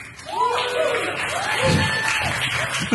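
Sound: audience clapping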